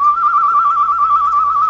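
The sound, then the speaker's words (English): A single sustained whistle held at a steady high pitch, loud and clear with no voices, used as a bird-call signal. “Bird call.”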